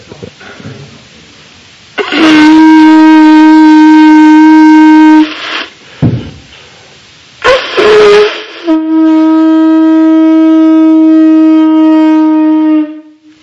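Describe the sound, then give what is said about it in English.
A conch shell is blown in two long, loud, steady blasts, each a sustained bright horn-like tone, separated by a brief pause with some breathy noise. “He blew in this conch shell.”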